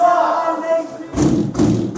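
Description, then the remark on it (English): A prison cell door bangs shut with heavy, booming thuds, two or three slams in quick succession, loud, following a sustained, droning tone. “It's a bang-up sound. It's called "We're behind our door and we can't get out."”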